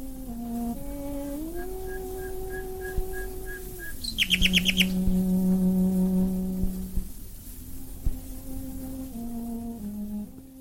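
A sustained, bowed cello melody played by cellist Beatrice Harrison while a nightingale sings along with bright, rapid trills and repeated chirps, all captured on a noisy, scratchy 1920s recording made outdoors.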